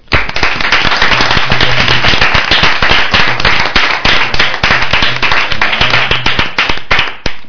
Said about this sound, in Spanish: ¿Un aplauso para él? Sí.